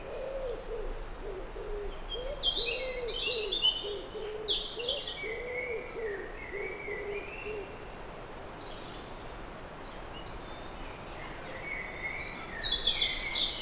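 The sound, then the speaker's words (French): A lively chorus of many birds chirping and trilling from all directions in a densely wooded mixed forest, steady throughout, with a low repeated cooing call underneath and no voices. “À 360 degrés des oiseaux.”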